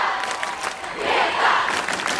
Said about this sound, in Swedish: Det här är ett klipp, men det här är då hur det lät i publiken när Sveriges enda riktiga rockstjärna presenterar sig.